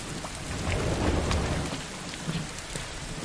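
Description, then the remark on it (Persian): Steady, dense rain hisses continuously while a low rumble of thunder swells and rolls through the middle before fading back under the downpour. No voices. “واسه یه قطره بارون کلی بازی در می آوردی. چطور الان واسه زیر بارون؟”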